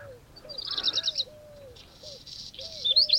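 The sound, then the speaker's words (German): A black redstart perched on an agricultural trailer by a horse pasture sings two short, scratchy phrases, high and crackling like radio static, separated by a pause, while a lower, soft cooing call repeats faintly underneath. “Also merkt ihr euch, Hausrotschwanz wie Radio.”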